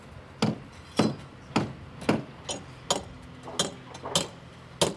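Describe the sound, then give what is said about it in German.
At a construction site, about 50 workers in helmets and high-visibility vests hammer formwork for the exterior walls of two factory halls: about nine sharp strikes on wood at a steady, slightly uneven pace, with faint overlapping knocks from other hammers in the background, no talking. “Rund 50 Arbeiter, korrekt bekleidet mit Helmen und Warnwesten, verschallen die Außenwände für 2 Werkhallen.”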